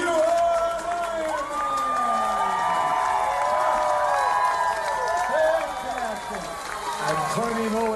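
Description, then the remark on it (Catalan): A large crowd at the race finish line in Hawaii, near midnight, cheers and applauds a racer finishing after 15 hours, 39 minutes and 59 seconds. The ovation is loud and sustained, with many overlapping voices shouting and whooping throughout, swelling slightly midway before easing a little toward the end. “Frodeno és un autèntic veterà, té 37 anys, però n'hi ha un altre que també es va endur una ovació de gala, perquè és un que gairebé doble Frodeno en edat.”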